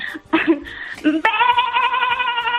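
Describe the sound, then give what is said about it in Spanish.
A person imitates a sheep's bleat, starting with short throaty, gargling bursts and then holding a long, wavering, nasal "baa" with a steady tremble to the end. “Oveja. Está muy bien.”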